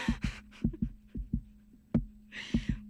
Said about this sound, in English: That's my heart. You're hearing my heartbeat right now.